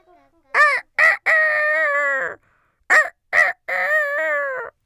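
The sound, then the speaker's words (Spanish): A rooster crows twice, loud, each call opening with short clipped notes and ending in a long, drawn-out harmonic cry, with a brief pause between the two. “Cantó él.”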